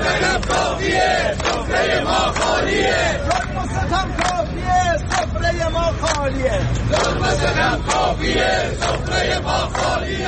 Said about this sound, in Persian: صدای قابلمه های خالی مردم را بشنوید.